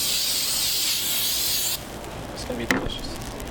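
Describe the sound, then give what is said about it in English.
A steady aerosol hiss of golden sweet cooking spray sprayed on a waffle iron in a store so the waffle doesn't stick lasts nearly two seconds, then cuts off, followed by quieter background noise and a brief clatter, with a voice faintly present. “What we'll do, get a little golden sweet spray. Spray that so it doesn't stick.”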